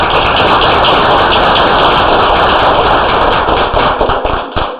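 An audience breaks into loud, sustained applause, a dense crackle of many hands clapping steadily for about five seconds before it begins to thin out at the end. No one speaks.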